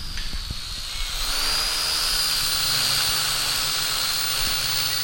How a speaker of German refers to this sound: Am nächsten Tag. Ausflug, um die Drohne der Kinder fliegen zu lassen.